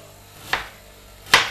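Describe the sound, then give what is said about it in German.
Two crisp knife chops on a cutting board as a small onion is cut crosswise with a freshly sharpened knife, spaced almost a second apart, clear with no talking. “Und dann quer dazu einschneiden.”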